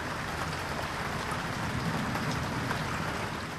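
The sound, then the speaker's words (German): Heavy summer rain pours down in New York in a steady, dense hiss, loud, drumming on surfaces without letting up, with no voices. “Die Sommer sind zwar sehr sonnig und sehr heiß, aber wenn es regnet, dann richtig.”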